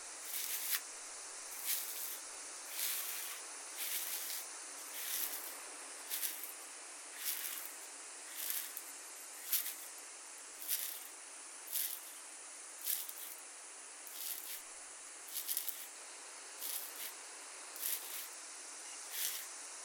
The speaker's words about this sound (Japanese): しばらくこのままマッサージを続けて、頭皮の汚れを浮かせていきますね。